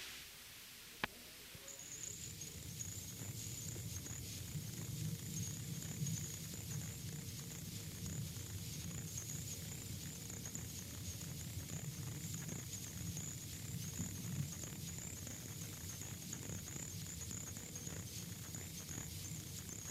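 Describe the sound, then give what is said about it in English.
A frog's thin, high-pitched tinkling call runs steadily and almost unbroken for the whole stretch, over a low background rumble, with a single sharp click near the start. No voices. “Its call is a high-pitched tinkling sound, which many people are unable to hear.”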